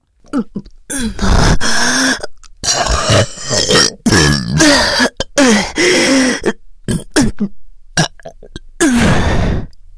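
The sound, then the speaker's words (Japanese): A rapid string of loud burps, one belch after another with only brief gaps, some long and croaking, others short, continuing throughout. “体内で変な化学反応起こってる。ゲップ止まんね。”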